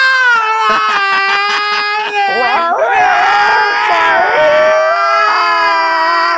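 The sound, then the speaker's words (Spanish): Loud, drawn-out yowling cries of cats mating, with wavering, sliding pitch; the wailing continues unbroken and thickens midway as a second overlapping yowl joins in. “Que dos gatos tengan sexo cerca a 100 metros de tu casa, güey.”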